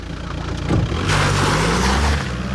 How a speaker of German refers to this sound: Ja, wie man hört, ist er dann mit quietschenden Reifen von gefahren.